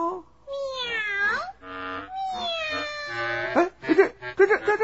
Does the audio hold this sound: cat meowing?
yes